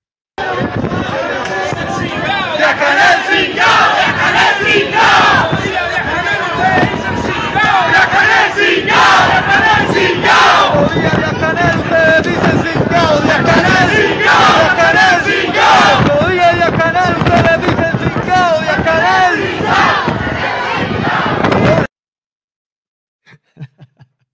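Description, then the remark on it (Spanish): A large crowd chants and shouts slogans in unison, including "Patria y vida" and "Díaz-Canel singao", a dense, loud roar of many voices that holds steady for about twenty seconds before cutting off abruptly into near silence. “grupo de jóvenes valientes, creativos, pero respaldados, apoyados con un pueblo gritando con ellos, patria y vida, Díaz-Canel Singao. Y para mí fue impresionante escuchar aquello.”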